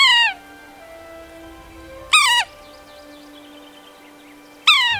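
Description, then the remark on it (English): A sapsucker gives three loud, nasal, cat-like mewing calls, each sliding downward, spaced a couple of seconds apart, with faint twittering of other birds in the background between them. “These birds have a really distinctive call.”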